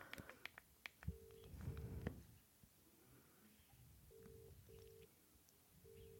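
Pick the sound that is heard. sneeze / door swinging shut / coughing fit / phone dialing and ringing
phone dialing and ringing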